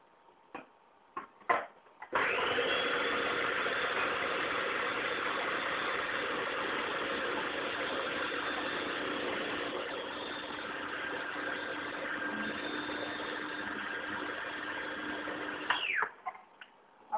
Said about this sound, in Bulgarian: Теперь мы с вами можем разбить соя. А сега можем да разбиеме в блендер соята. В миксер. Да я поставим в блендер и в миксер. Вместе со стаканом воды. Заедно с стакан, с чаша вода.